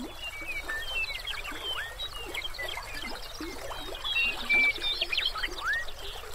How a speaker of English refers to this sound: Today, the southern reaches of the river lie within Grasslands National Park, Canada's premier park devoted to preserving this unique ecosystem. As the river meanders, it blends its music with that of the birds.